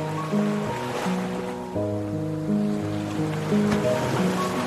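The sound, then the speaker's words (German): Gentle ocean waves of cold seawater wash in and out around feet at a beach in slow, steady swells beneath sustained, calm musical tones, with no voices present. “du spürst das erfrischende, kalte Nass des Meeres, was deine Füße umspült. Und mit den Füßen weiter im Ozean beginnst du den Strand entlang zu gehen.”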